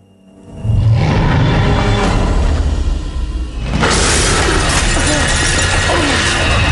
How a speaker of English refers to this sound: Something springs through the back window, shattering it.